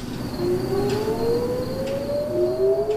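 Air raid warning sirens in Israel wail, warning of incoming missiles, their tones slowly rising and overlapping in long sweeping glides over a steady background hum, with no voices present.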